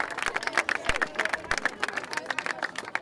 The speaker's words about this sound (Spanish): Por favor, un fuerte aplauso a los dos.